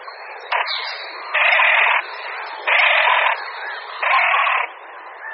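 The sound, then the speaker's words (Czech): A courting male great crested grebe calls three times at even intervals, each loud, harsh, rasping call lasting about half a second, over a steady noisy background of softer chatter. “Slyšíme hlas stokajícího samce Potápky Roháše.”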